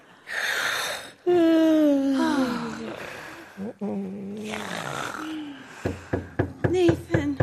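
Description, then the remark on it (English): A rapid series of sharp, loud knocks on a door, about half a dozen raps in quick succession, follows several seconds of strained, wailing, animal-like vocal sounds. “there's somebody at the door.”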